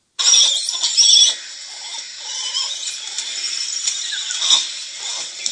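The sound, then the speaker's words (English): Langur monkeys squeak and squeal in high, thin, overlapping calls, with a loud shrill burst at the start, then a steady chatter of softer squeaks and one sharper squeal near the end. “And so here is what I would call more some of their squeaks and squeals.”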